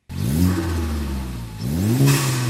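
The engine of a hand-built Westfield sports car, from a small British car maker, is revved hard by the company's boss, Julian Turner. Its pitch climbs, dips briefly, then surges upward again in a second loud rev, with no voices present.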